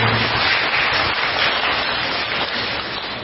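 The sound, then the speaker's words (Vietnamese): A group of children clapping together in a dense, steady round of applause that holds at an even, fairly loud level for a few seconds, with no voices over it. “Rồi, hay quá, cho một tràng pháo tay.”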